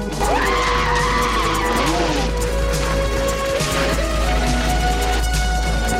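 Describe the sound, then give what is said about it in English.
Loud, continuous roar of jet ski and speedboat engines racing, their whining pitch rising and falling as they rev and pass by, with no one speaking; jet skis gaining ground on a motorboat and speedboat on the water. “The jet skiers gain ground on the motorboat and speedboat.”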